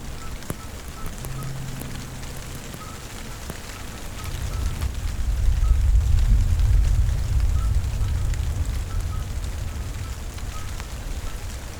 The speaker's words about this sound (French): Face à moi, l'étang de Barandon, avec un léger reflet argenté. Et le chant des crapauds.